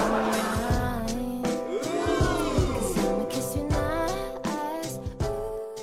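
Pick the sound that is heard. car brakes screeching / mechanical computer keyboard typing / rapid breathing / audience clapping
car brakes screeching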